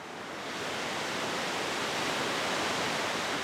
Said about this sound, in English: Further south is Bellows Falls Dam, another that's up for relicensing. Kathy Erfer shows me how excess spring meltwater is rushing through a channel on the side of the dam called a bypass.